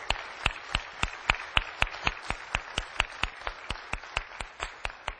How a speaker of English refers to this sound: Well, happy Mother's Day to all of our mothers. Let's give our mothers a big round of applause, huh?